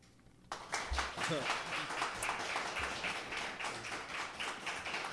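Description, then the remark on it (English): A round of applause for the artists at the Heartstrings Songwriter Circle Showcase breaks out suddenly and holds steady: many hands clapping in a dense, continuous patter, with a few voices calling out mixed into the clapping. “Let's give another round of applause for our artists.”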